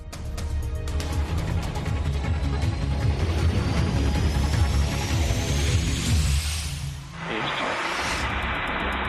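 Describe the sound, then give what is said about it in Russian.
A Russian Ka-52 "Alligator" attack helicopter roars, its heavy rotor thump and rising engine whine filling the air, then the sound cuts briefly and resumes as a steady, loud mechanical drone. “ВСУшников, которые наносят удары по мирным городам, денацифицируют, в том числе и российские ударные вертолеты К-52 «Аллигатор».”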